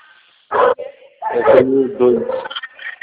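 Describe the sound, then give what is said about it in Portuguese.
A small dog barks and yips, a sharp loud bark followed by a string of higher-pitched, whiny yips. “Você tem cachorrinho?”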